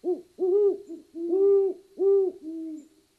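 A great horned owl hoots a run of deep, resonant notes in a steady rhythm, clear against a quiet background, with no voices.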